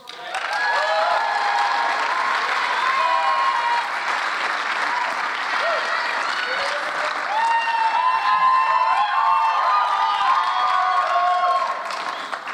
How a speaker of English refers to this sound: Okay, I've just lost 20 seconds because of your cheering.